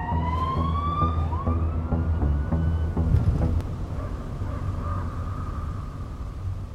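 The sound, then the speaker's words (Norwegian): Police sirens wail in rising and falling sweeps over a low, steady rumble of engines, fairly loud and continuous, with no one speaking: many police cars chasing a Ford Scorpio through the forested valleys of Østerdalen, Norway, on a warm, pitch-dark August night. “En varm, men beksvart natt I august, midt inne I skogsrike, langt oppe I dalstrøkene I Østerdalen, farer en Ford Scorpio gjennom landskapet, med en bråte av politibiler, hakk I hel.”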